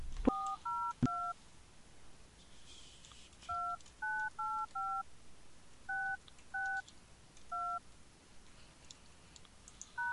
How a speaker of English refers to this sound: please enter the phone number you would like to dial, followed by the pound key.